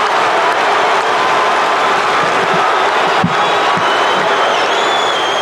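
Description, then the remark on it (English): A basketball arena crowd cheers after Michael Cooper's 18-foot shot in a Lakers game, in a loud, steady roar that holds for several seconds without letting up. A few sharp whistles and shouts poke through the din. “But listen to this crowd on Cooper's heroics.”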